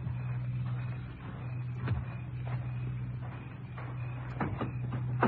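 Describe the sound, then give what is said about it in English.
A man opens a car trunk: a few sharp mechanical clicks and thumps from the latch and lid, spaced over several seconds, above a steady low engine-like hum. “He just opened the trunk compartment.”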